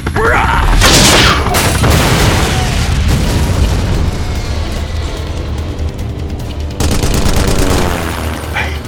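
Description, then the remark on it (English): A loud grenade explosion booms out just below the belly of a red helicopter, with further blasts punctuating a continuous roaring, crackling rumble and rapid popping like gunfire, and no talking. “The grenade flew up just below the belly of the soaring red chopper and went off.”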